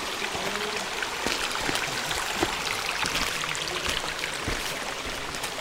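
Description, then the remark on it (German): Water runs steadily through a walled stone irrigation channel high up in the mountains, whose edge serves as a hiking path, a continuous bright gurgle and trickle with small splashes, fairly loud, with no voices. “Weit oben in den Bergen dient uns der Rand eines gemauerten Wassergrabens als Wanderweg.”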